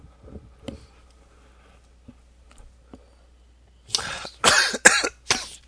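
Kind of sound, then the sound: human body sound, coughing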